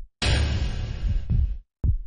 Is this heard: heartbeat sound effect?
yes